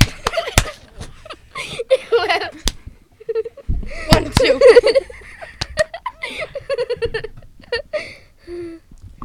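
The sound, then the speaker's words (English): Several sharp slaps crack out at irregular moments, mixed with bursts of giggling and laughter and some talking voices. “And he touched the munchkins, and they turned into donuts, so I slapped him. Oh God. Slap noise.”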